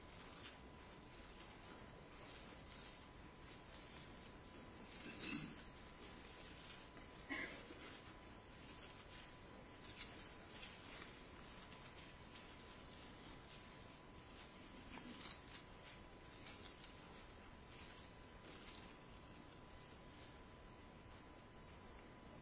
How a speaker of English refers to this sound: Be surprised how encouraging it is to hear pages turning.